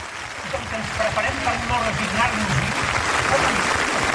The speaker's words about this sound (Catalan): Déu-n'hi-do les ovacions que està rebent Carles Puigdemont, que crec que està encarant el tram final del seu discurs.